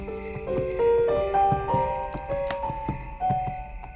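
Horse hooves clip-clop at a steady walking pace as the horse Malek Adel is ridden into the yard of an estate, sharp knocks repeating every half second or so beneath a soft, sustained musical drone, with no one speaking.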